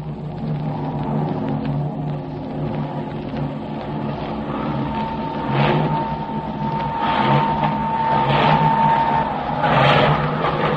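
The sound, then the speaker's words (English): A steady, heavy drone of a large formation of B-29 Superfortress bomber engines arriving from the east to land on Saipan, a layered low hum with a thin high whine running through it, swelling slightly louder in waves toward the end, with no voices. “A few days later, from the east, came the drone of a mighty armada of planes.”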